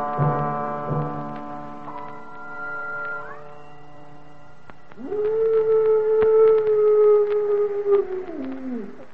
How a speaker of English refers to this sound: What was that? Well, that was merely the soul of a wolf passing by the Curgatorium. Does it bite? Oh, no, no. Don't be alarmed,